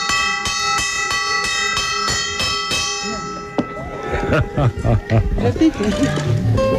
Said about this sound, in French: Voilà, la cloche est sonnée, la cloche de l'école de Valle Grande. C'est avec une pierre, on prend une pierre et on tape sur un cercle de métal et les gosses s'alignent, se mettent en rang.